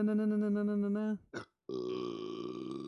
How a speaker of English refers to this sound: That was a burp.